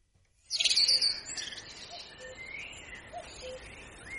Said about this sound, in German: jetzt machen wir es mal ganz kurz wie die Antonia und hören mal kurz den Vögeln zu